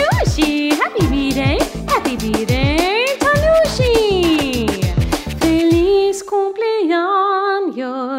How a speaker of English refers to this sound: My dog says, to you